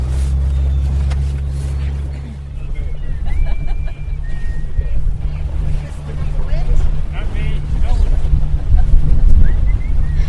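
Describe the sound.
A small fishing boat's engine drones steadily as it motors across the water in Newfoundland, heading for a traditional fishing ground called the Harvey on the last day of the food fishery, just before sunset, with wind buffeting the microphone, rushing water, and faint, indistinct voices in the background.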